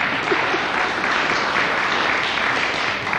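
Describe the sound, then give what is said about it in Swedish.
A crowd claps steadily and loudly, a dense wash of many hands without a break for a few seconds, with no voices standing out. “Om du säger vad du själv heter en gång till så får du också en applåd.”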